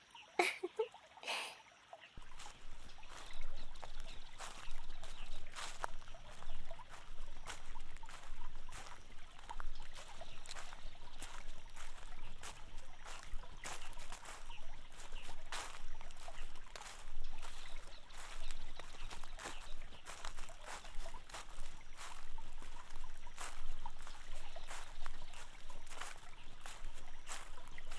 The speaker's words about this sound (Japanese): 川、綺麗ですよね。透き通っていて、お魚さんがいるときはすぐにわかるのですよ。